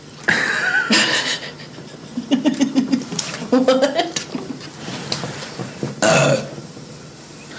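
burping

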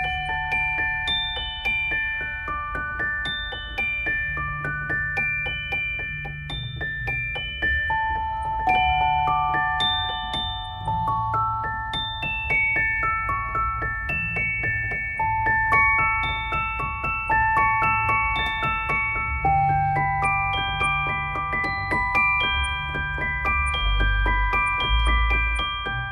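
celeste playing bell-like notes

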